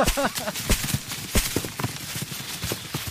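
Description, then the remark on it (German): Feet stomp repeatedly, all together, to shake apples off a tree, in a quick, uneven series of heavy, fairly loud thuds, with a brief voice sound at the start. “Stampfen. Und nochmal stampfen.”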